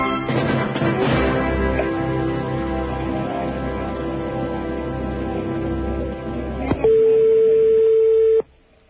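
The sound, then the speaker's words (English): A French telephone ringing tone on an overseas call to Paris: a steady, mid-pitched electronic hum heard over a phone line with background hiss, briefly growing louder before cutting off. No one speaks. “French phone is ringing.”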